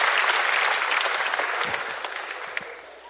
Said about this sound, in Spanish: Oye, un fuerte aplauso para él, ahora sí.